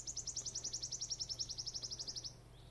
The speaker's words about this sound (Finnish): Pohjoisimmat yksittäiset sirittäjät laulavat Metsälapissa, mutta jo Kuusamon korkeudella laji on melko harvinainen ja sen lauluun kiinnittää noilla leveysasteilla aina retkillään huomion.